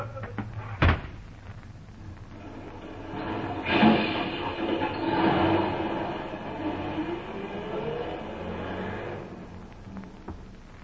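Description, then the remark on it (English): A door bangs sharply once near the start as a woman is thrown out, followed by a long, loud rumbling clatter that swells and fades over several seconds, with no voices. “All right, hold that door open there. Now, come along, come along. Out you go!”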